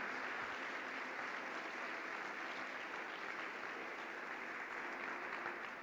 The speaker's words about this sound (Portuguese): Você pode glorificar a Deus por isso? Você pode olhar para o seu passado e aplaudir o nome de Jesus por todas as bênçãos?